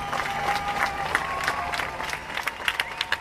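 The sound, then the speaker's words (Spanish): A crowd applauding outdoors in front of the Bataclan at the appointed hour, a steady dense patter of many hands clapping at moderate loudness, with a few sharper claps standing out and faint murmuring voices underneath. “Cuando se cumplió la hora indicada, la gente presente frente al Bataclan comenzó a aplaudir.”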